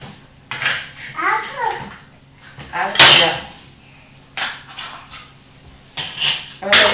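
A fork scrapes and clicks against a plate in several short bursts, mashing potatoes into crumbs, while a small child babbles and vocalizes between the strokes.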